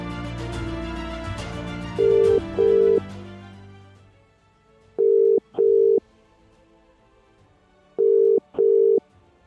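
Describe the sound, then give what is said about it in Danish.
Music fades out under the ringback tone of an outgoing telephone call: a steady electronic beep sounding in short double pulses, repeating three times with pauses between, clear and fairly loud, with no one talking. “Så jeg tænker da lige, vi ringer til hende, gør vi ikke?”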